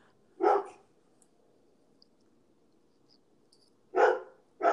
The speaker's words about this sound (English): Can you hear anything but the dog barking? I mean, this is amazing.